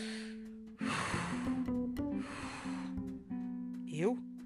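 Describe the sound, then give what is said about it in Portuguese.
Deep, heavy breathing performed by a voice, portraying a rooster breathing deeply on a window ledge after nearly suffocating in a closed bag: two long, loud, rasping breaths over a low hum, ending with a brief rising vocal squeak. “Aterrissou na beirada e ficou respirando fundo.”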